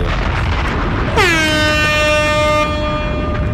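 A single loud air horn blares for about a second and a half, a brassy, sustained honk over steady background noise, then cuts off abruptly.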